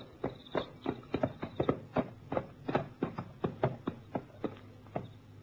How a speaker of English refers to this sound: Twenty minutes later, Sefton saw a farm in the distance. He reined his horse into a walk.